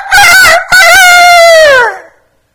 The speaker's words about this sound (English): You saw the rooster in the morning, that I talked about in Ecuador. And, you know, the rooster at 4 o'clock.